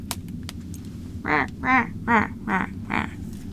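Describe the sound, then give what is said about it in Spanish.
Five honking calls from geese flying toward warmer places come in a steady, evenly spaced series, each a short nasal, harmonic blast, heard over a low, constant rumble with no voices. “Los gansos volaron hacia lugares más cálidos, navegando por la luz de las estrellas y graznando todo el camino.”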